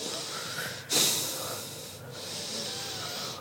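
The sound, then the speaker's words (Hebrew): Loud breathing in a steady rapid rhythm, each breath flowing straight into the next with no pause, sharp airy inhales repeating about once a second. It is a demonstration of a round of 30 to 50 connected breaths through the nose or mouth. “אנחנו עושים 30-50 נשימות מחוברות, מהאף או מהפה.”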